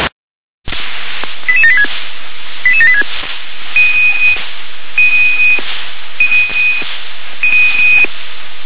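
Telephone dialing tones over a phone line: a few quick clusters of keypad beeps, then four longer, evenly spaced steady tones, clear and fairly loud against a faint hiss.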